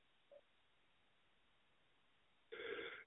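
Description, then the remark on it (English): A single loud, abrupt sneeze from someone getting a little bit of a cold bursts out near the end after a few seconds of near silence, over in about half a second. “Excuse me. Bless you.”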